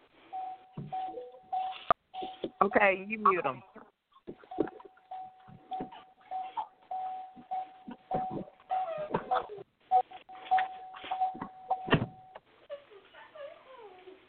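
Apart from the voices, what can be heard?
beeping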